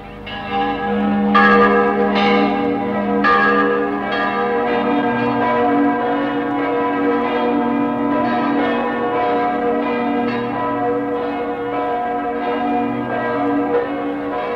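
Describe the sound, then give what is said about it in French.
Church bells peal continuously and loudly for a victory, in a radio presentation of the film Mathias Sandorf, several bells overlapping in a dense, ringing wash with sharp strikes early on, sustained throughout with no voices. “Mes amis, les cloches de la victoire.”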